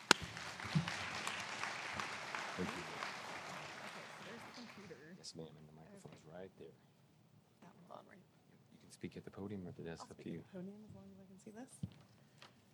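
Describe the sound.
A steady round of audience applause, dense and fairly loud, claps for about five seconds before fading out, after which a single voice begins speaking alone.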